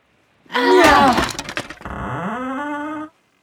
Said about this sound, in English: The children picked up the table and banged it against the door.